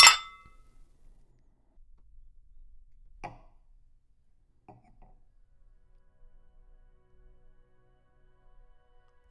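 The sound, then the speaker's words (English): Wine glasses clink together once in a bright, ringing toast that fades quickly, followed by near silence with a couple of faint, soft taps. “Let's cheers to that.”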